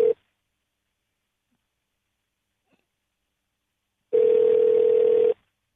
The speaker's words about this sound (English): You imagine just being someone listening to us listen to a phone ring?